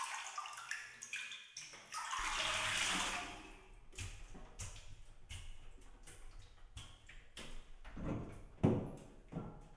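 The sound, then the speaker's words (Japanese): Water sloshes and splashes as someone climbs out of a bathtub to sit on a chair and wash, a broad rushing surge followed by drips, knocks and shifting movements, fairly loud with no talking. “そろそろ体洗いましょうか。お風呂から上がってこっちの椅子に座ってください。”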